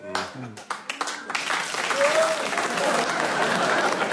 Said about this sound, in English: If you're going to clap every correct challenge, we'll never get anywhere, right?